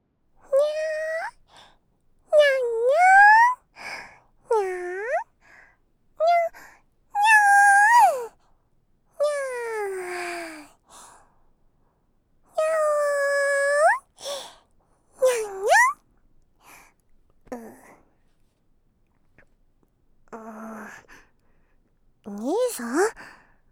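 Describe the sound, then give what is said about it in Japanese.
A voice imitates a cat in Japanese roleplay as ear-soothing animal therapy, with a string of drawn-out, rising and falling meows. The meows are fairly loud, with short pauses between and a few softer, breathier cat-like sounds toward the end. “最初はにゃんこになって兄さんの耳を癒してあげます。”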